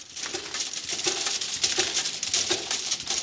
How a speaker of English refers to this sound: The sound is of glass vials the size of a thumbnail being put through a labelling machine at Allergy Therapeutics in Worthing.